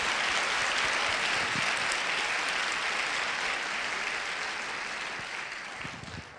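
A crowd claps steadily in warm applause welcoming newcomers, a dense wash of many hands that holds strong for several seconds and then begins to taper off toward the end.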